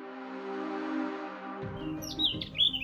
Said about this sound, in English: Have you ever wondered what songbirds are actually saying to each other with all of their chirping?